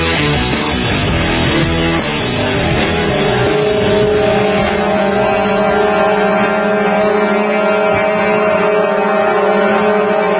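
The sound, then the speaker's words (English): A loud, unbroken chorus of horns blares from a convoy of thousands of trucks and other vehicles in the capital of Canada, many sustained, overlapping tones droning together for the whole stretch with no talking. “Thousands of trucks and other vehicles, the capital of the besieged nation of Canada under Klaus Schwab, UN control.”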